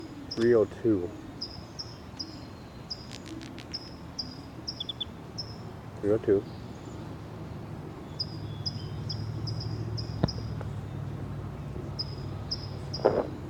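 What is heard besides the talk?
bird song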